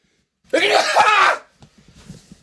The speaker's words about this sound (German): warte mal, ich muss gleich niesen. Ich merke es in der Nase hochsteigen. Ich zögere, ich moderiere das noch kurz an, bevor ich gleich den Kopf